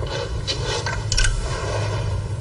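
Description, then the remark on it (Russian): The receive lever of a radio set on a self-propelled gun is switched over with a few short mechanical clicks and a brief scraping clunk, set against a steady low hum with no voices. “Я забыл переключить рычажок.”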